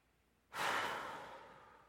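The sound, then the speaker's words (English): A long, deep breath drawn in during a guided inhaling exercise at a service, starting abruptly as a soft breathy rush and fading gradually over more than a second. No one speaks. “So you're inhaling.”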